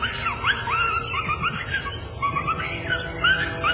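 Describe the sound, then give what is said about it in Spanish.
A person whistles a string of short, rising, chirpy whistles in quick succession, fairly loud, mimicking a catcall-style whistle over a low background rumble. “Entonces dije, no, de pronto escuché chiflidos.”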